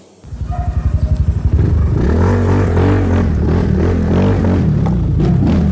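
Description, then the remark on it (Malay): A motorcycle engine sputters to life with quick chugging pulses, then roars loudly and steadily, its pitch climbing and wavering as it revs up, with no voices. “Bagaimana supaya ini motor mau jadi laju?”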